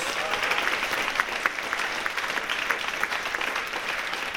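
An audience applauds the piano player as the band is introduced, a steady, dense patter of many hands clapping at a fairly loud, even level throughout, with occasional sharper claps standing out.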